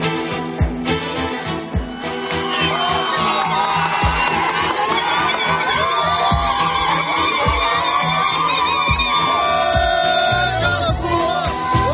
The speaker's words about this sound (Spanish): Son los aplausos y los gritos también esta medianoche cuando se reabría la frontera de Marruecos en Ceuta y Melilla, después de 26 meses, 26 meses que ha estado cerrada, desde el 14 de marzo de 2020.